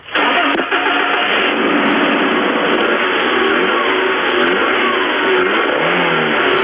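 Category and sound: vehicle, car engine revving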